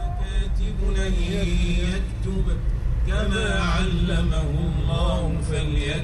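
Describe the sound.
A man driving a car chants Quranic verses in long, wavering melodic lines along with a recitation on the car radio, which is tuned to Mohammed VI Radio, over a steady low rumble of the moving car.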